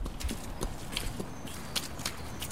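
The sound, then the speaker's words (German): Horses are led into a stable on a farm where rain has left mud and puddles, their hooves clopping on a hard floor in a slow, uneven walking rhythm, several sharp strikes over a low, steady background rumble. “führt ihre Pferde in den Stall, legt Stroh aus.”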